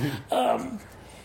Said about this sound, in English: I just got the parrot telling me what to do out there. she's yelling, "Allow!" It's allow. Oh, there she was. There she was.